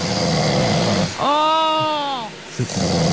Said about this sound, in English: Oh, I've actually got some snoring from your past relationships. Oh. These are from your phone, remember? Yep. We played them on the show. That's what you had to put up with. Isn't that horrific?